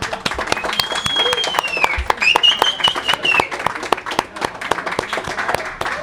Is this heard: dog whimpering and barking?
no